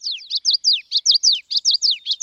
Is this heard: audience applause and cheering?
no